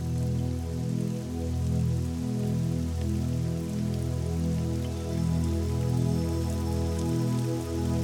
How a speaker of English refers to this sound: As you approach this waterfall, the sound reverberates, drowning out all other sounds.